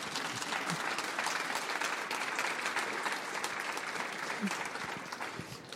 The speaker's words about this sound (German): Ich finde, das hat jetzt mal einen echten Applaus verdient hier.